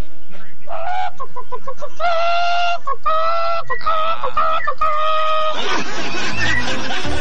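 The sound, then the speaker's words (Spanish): At an animal imitation contest, a person imitates a chicken, making a run of clucking and cackling calls in uneven bursts, loud, ending in a rougher, breathy squawk. “No, esta tiene que ser alguna gallina de supermercado.”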